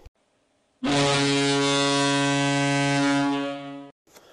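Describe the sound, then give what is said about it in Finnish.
A loud, sustained horn-like buzzer marking the end of a period blares for about three seconds, a steady harmonic-rich tone that holds evenly before cutting off abruptly, with no voices. “Ja summeri soittaa jakson päättymisen merkiksi.”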